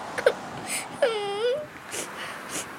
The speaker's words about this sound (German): Ich muss aber weinen, weil sie mich so laut angeschrien haben.